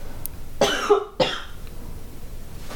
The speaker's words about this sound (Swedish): Jag måste hosta, ursäkta.